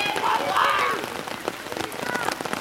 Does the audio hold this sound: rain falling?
yes